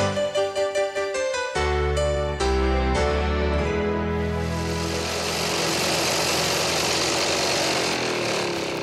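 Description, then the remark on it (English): A small lawnmower engine sputters in quick pulses, then catches into a loud, steady droning roar as a lawn is mowed. The hum turns rougher and noisier as it keeps going, with no voices. “Where's the lawnmower?”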